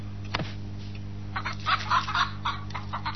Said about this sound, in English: Mr. Purdy, you're keeping a chicken here, aren't you?